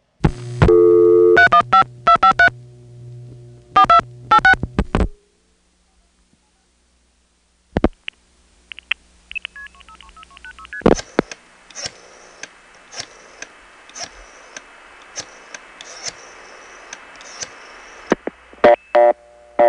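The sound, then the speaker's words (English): A telephone exchange in Syracuse, New York, dials a seven-digit number to reach Auburn: bursts of sharp mechanical clicking from pulse dialing, several digit groups in quick succession, broken by a pause and a steady electronic tone, then more clicking trains over a faint background hum. “Just to show you that it really is dialing 7 digits, let's take an imaginary rotary dial phone and dial the same number that Syracuse is dialing and see if all 7 digits fit into that amount of time.”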